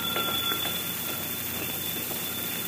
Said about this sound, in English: But why is the telephone ringing?